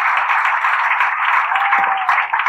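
An audience applauds steadily for a couple of seconds, a dense, even wash of many hands clapping at once, with no speech over it.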